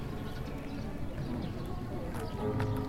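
Steady, rhythmic footsteps stomping in place during a Radio Taiso No. 3 (radio calisthenics) exercise routine, moderately loud, with a faint musical tone sustained underneath.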